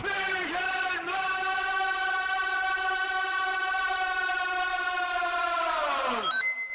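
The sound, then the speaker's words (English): A loud, buzzing chainsaw-like drone holds a steady pitch for about six seconds, with two brief stutters early on, then winds down as squeaky, high cartoonish voice sounds chirp at the end. “And what more appropriate sound effect to start a conversation on violent games than what sounds like Mario with a chainsaw?”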